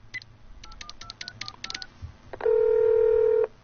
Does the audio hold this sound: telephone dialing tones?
yes